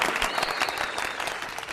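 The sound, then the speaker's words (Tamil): A steady burst of applause for two callers on a show, many hands clapping at once in a dense, continuous patter at fairly even loudness throughout, with no voices over it. “So அப்பேற்பட்ட அந்த இரண்டு ஜாம்பவான் காலர்ஸ்க்கும் நம்ம ஒரு பெரிய சிறப்பான கைத்தட்டல் கொடுக்கணும்.”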